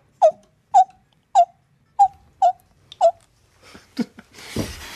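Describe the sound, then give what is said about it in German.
An animal-voice imitator imitates common toad calls: six short, evenly spaced croaking chirps in quick succession, clear, followed by a few rougher breathy sounds and a burst of noise. “Und dazwischen hört man dann die Erdkröten rufen.”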